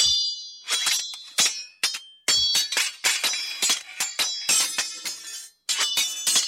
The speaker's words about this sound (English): Sword fighting, two opponents.